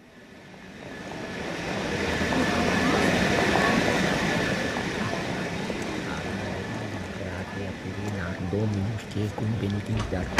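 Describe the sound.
A passenger train rumbles steadily along the rails, the noise swelling over the first few seconds and then holding as a continuous roar, with voices faintly audible beneath it toward the end.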